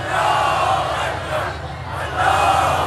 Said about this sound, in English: Crowds in Tehran chanted, "God is greater," as they marked the day 43 years ago when Iranians stormed the American embassy